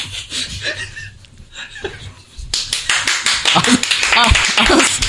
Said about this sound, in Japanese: ありがとうございます。まさか僕がね、ほんまこんな拍手が。